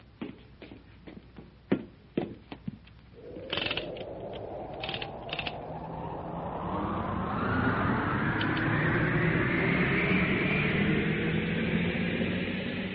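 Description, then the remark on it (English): A few sharp mechanical clicks and clanks give way to a rising metallic rush as a rail car carrying a load slides faster down copper rails inside a crater, the roaring whine climbing steadily and holding loud. “With the speed of an arrow, the great car and its burden slides down the copper rails.”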